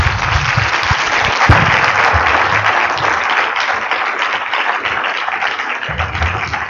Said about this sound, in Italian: però così tutti insieme vorrei che lo salutassimo di nuovo con un grosso applauso, con un grazie.